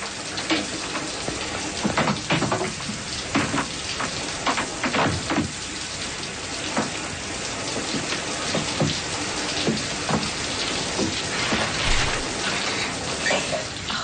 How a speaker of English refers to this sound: turn the faucet off. You're wasting water.